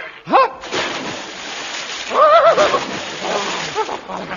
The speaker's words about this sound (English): As I jumped out of bed, I thought I heard two splashes.